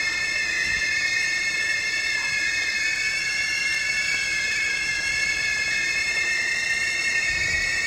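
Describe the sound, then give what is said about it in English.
Several boiling teapots, from a one-sided record by an Argentinian band, whistle together in a steady, shrill, layered chord of high tones that holds unbroken for the whole stretch, over a low hissing rumble, with no voices. “It's a one-sided record featuring boiling teapots.”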